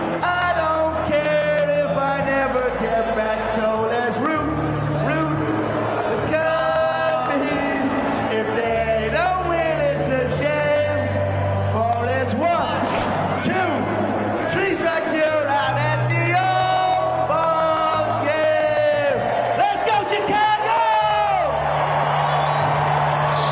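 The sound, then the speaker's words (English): A lone voice sings the seventh-inning stretch song loudly and off-key over the public address at Wrigley Field, wavering on long notes, while a large crowd cheers and shouts throughout, dense and continuous. “And to say he lost the tune at one point would be being kind.”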